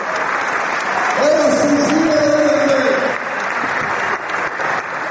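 Sustained applause from a large stadium crowd in Belgrade, seeing off the visiting players from Split after a match: a dense steady roar of clapping, with a brief rising vocal tone or chant-like cheer riding over it in the middle, then continuing clapping to the end.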